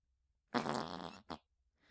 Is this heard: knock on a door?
no